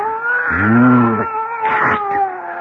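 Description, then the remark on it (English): A fat, sleek cat lets out a long, loud, drawn-out yowl, followed by a few shorter, wavering mews, over a steady humming tone in the background. “Oh, I'd forgotten that mewing, spewing cat.”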